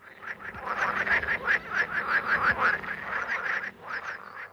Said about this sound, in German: Und den Weinkeller, wo die Kröten unkten.